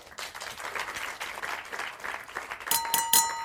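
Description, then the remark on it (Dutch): Sustained applause from a crowd after a dinner for the cook and his team, a dense patter of many hands clapping at a steady, fairly loud level, with a few brighter, sharper bursts near the end. “Groot applaus voor de kok en zijn ploeg.”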